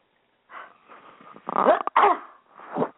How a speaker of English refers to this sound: Double sneeze.